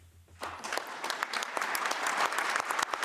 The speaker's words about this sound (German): Mit Applaus feierten die Delegierten in Genf am Vormittag ihren Beschluss.